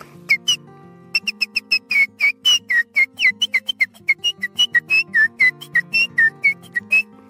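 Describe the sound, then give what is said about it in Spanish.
A person whistles an imitation of the call of the calandria, a tropical bird species: a quick, steady string of short, bright chirping notes with slides between pitches, clear over a faint low hum. “Y voy a imitar una especie que es tropical, que es la calandria.”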